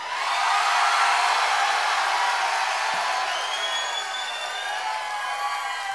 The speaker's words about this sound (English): That counts as polite applause in my book.